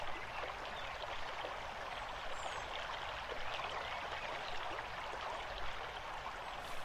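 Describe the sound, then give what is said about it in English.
A gentle stream in a forest trickles steadily over smooth, flat stones, a soft, continuous babble of running water heard alone, with no voices. “Feel yourself then lying down on these smooth, flat stones in a cool and gentle stream in a forest, letting the water move over the stones you lie on”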